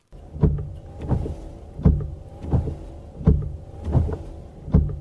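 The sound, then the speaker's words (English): The windshield wipers of a small Ford Fiesta, recorded from inside the car, are switched on at the steering-wheel stalk and sweep back and forth in a steady rhythm. Each pass is a motor whir ending in a thump, repeating about every three-quarters of a second, clear with no talking. “This is on my car, my little Ford Fiesta downstairs. This is the windshield wipers.”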